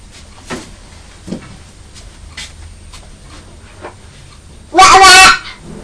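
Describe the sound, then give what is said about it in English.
One loud, harsh quack from ducks on a pond bursts out near the end, following several seconds of quiet background with only faint scattered knocks and rustles. “That's right, that's the ducks on the pond.”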